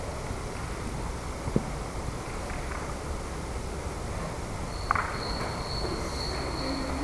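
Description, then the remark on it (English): A faint, high-pitched cricket trill starts partway through and keeps going steadily to the end, over a low, noisy room background with a couple of soft knocks. “Somebody brought a cricket.”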